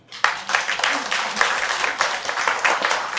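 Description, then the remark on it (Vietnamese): An audience at a Buddhist talk bursts into steady applause at the speaker's request, many hands clapping together in a dense, sustained wash that starts abruptly and carries on without a break. “Các bạn cho một tràng pháo tay bạn.”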